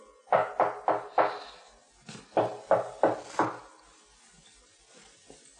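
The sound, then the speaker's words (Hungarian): Knocking on a wooden wine barrel in a cellar to tell whether it is full: two quick sets of about four firm raps, separated by a short pause, clear with no voices. “Kopogtasd meg, ha kong üres, ha nem kong tele van.”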